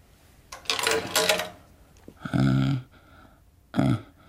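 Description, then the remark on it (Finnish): A coin drops into a coin-operated telescope with a bright metallic rattle lasting about a second, followed by two short, buzzy mechanical clunks as the mechanism engages. No one speaks. “Onko sinulla kolikkoa?”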